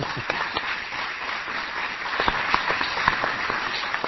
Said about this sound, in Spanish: ¿Podemos escuchar a ver cuánta gente que se hagan presente? Tendrían que decir, no sé. No, con un aplauso. Aplaudir, un aplauso.